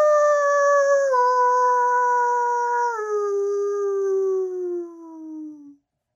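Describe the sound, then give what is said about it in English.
A person in an apartment imitates a wolf howl over a Zoom call in one long, loud, sustained note that starts high, drops in steps, and slides lower as it fades out near the end. “No, if you're going to howl, you got to go all out.”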